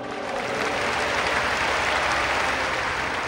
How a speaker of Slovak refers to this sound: Tieto slová pápeža Benedikta XVI., ktoré zazneli počas jeho homílie, vyvolali silný a dlhý potlesk.